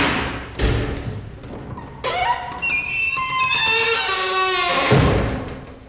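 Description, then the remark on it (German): A wooden door at the Akademie am Schillerplatz creaks and squeals in a long, wavering, high-pitched drawn-out groan, framed by dull thumps of the door moving and knocking shut, fairly loud with no voices. “Oder ein anderes Beispiel, an der Akademie am Schillerplatz, da gibt es sehr viele quietschende und knarrende Holztüren.”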